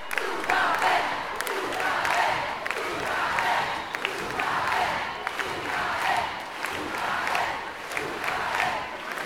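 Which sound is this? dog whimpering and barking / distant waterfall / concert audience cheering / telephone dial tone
concert audience cheering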